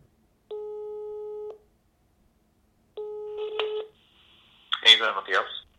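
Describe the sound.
A telephone ringback tone sounds twice over the line as a call is placed to a cardiac arrest researcher for an interview, each a steady one-second burst with a pause between, the second mixed with clicking, before a voice briefly answers.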